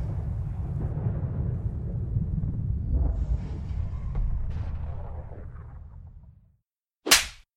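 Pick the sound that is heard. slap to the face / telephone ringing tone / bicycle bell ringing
slap to the face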